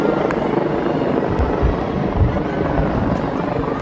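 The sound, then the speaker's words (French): A loud, steady drone of police helicopters fills the air over Causeway Bay, a shopping district on Hong Kong Island, as police direct the dispersal of protesters, the low rotor throb continuous with a broad rushing wash of noise and no clear voices. “Le bruit d'hélicoptères des forces de l'ordre n'est pas habituel dans le ciel de Causeway Bay, quartier très commerçant de l'île de Hong Kong.”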